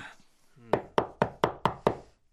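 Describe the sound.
Six sharp, evenly spaced knocks on a wooden classroom door at a school, fairly loud, following a brief murmur of voice at the start.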